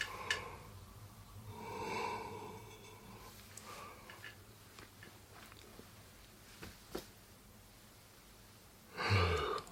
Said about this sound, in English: This is going to be a silent warm-up. If you want to warm up your voice, but you can't actually make any noise at the time, then here's something you can actually do. First off is yawning.